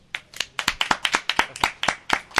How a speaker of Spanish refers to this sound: Os pido un fuerte aplauso.